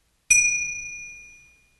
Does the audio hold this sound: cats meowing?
no